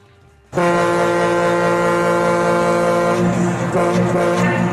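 A ferry horn, played on 710 ESPN Seattle and after Seattle Kraken goals at Climate Pledge Arena, sounds one long, loud, sustained blast, deep and brassy with rich stacked harmonics, starting abruptly after a brief quiet moment and holding steady for about four seconds.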